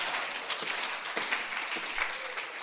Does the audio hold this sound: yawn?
no